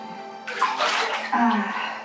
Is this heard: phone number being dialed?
no